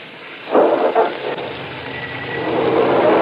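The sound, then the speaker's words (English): A couple of short thumps or rustles as someone gets into a car, then the car engine comes up and settles into a steady, rising rumble in the rain, with no one speaking. “I picked it up, put it in my apron pocket, rushed over to the other side of the car and got in.”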